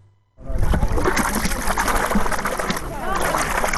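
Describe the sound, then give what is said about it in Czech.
Very salty spring water from the ground pours steadily into a pool at a natural spa by a mud lake in Ovča, 15 km from central Belgrade, Serbia, on a sultry summer day: continuous splashing and trickling that starts abruptly and holds at an even level, with voices talking faintly underneath. “Probaj vod. I ulijeva se u ovaj bazen.”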